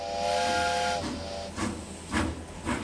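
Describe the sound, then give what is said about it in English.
A steam train's whistle sounds for about a second, then breathy bursts of escaping steam chuff at a slow, steady pace as the locomotive begins to pull away from the station. “After the final man arrived, the conductor gave his formal "all aboard," and the train chugged away from the station.”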